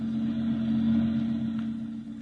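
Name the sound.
truck engine running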